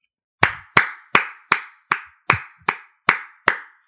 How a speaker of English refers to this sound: I'll give him a clap.